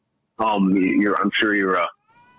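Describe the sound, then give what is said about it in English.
Two drawn-out, whiny meows from a cat in quick succession, fairly loud, each with a wavering, rising-and-falling pitch, followed by a faint tail of background noise. “I'm sure you're, there's a cat.”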